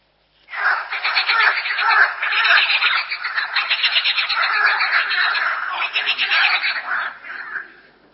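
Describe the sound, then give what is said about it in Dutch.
A dense chorus of frogs croaking continuously for several seconds, rapid pulsing calls overlapping in a steady, fairly loud wall of sound. “Ja, dat was een kikker.”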